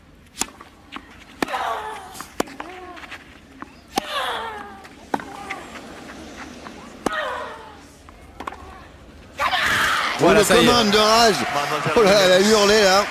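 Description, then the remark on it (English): Sharp tennis ball strikes with short grunts trade back and forth in a match as Serena fights back at 4-3 to get the break, then a roaring crowd erupts and her loud, wavering yell rises over the cheering for several seconds. “that yell, that scream says it all.”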